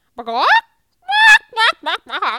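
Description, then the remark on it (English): A chicken squawks loudly: one drawn-out cry, a short pause, then a string of four harsh, clipped squawks in quick succession. “Here, chicken, chicken, chicken.”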